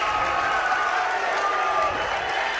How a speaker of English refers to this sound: And that one bringing the Thunderbird crowd to their feet. The student section is fired up.